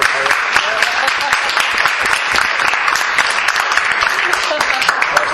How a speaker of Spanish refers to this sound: Entonces le vamos a recibir con un gran aplauso y muchísimas gracias por esto.